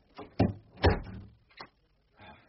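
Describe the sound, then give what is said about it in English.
A door is pushed shut, with two heavy wooden thumps and some scraping, then a lighter knock as it settles, followed by a faint rustle. No one speaks. “If you shut this door, we can switch the lights on here.”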